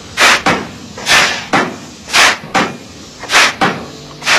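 A pile driver, worked by the mayor pulling the ropes, drives a decorated foundation pile in a polder made ready for building, pounding in a steady rhythm, about one blow per second, each loud thud paired with a sharp burst of hissing, with no voices.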